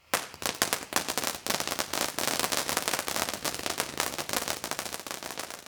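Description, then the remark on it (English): A dense, continuous barrage of Christmas fireworks crackling and popping, rapid sharp bursts overlapping for several seconds at steady loudness, with no voices. “One Christmas, we even had fireworks.”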